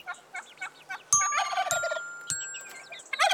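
A turkey gobbles in quick, warbling bursts, joined midway by several bright ringing chime notes that linger before a final burst of gobbling.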